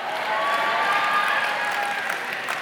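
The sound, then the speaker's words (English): Steady audience applause, a dense wash of many hands clapping at an even, sustained loudness, with a few faint whoops and voices mixed into the crowd noise. “Now, before you get too happy with your applause, please understand we did not dress him this way on purpose.”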